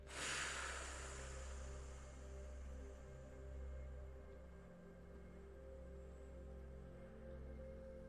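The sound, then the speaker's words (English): A single slow exhale done as a breathing exercise that elongates the exhale, starting as a soft breathy rush and gradually fading over several seconds into a quiet low hum, unhurried, with no talking. “Another simple breathing out technique, which is also fantastic, is what I call the FR breath.”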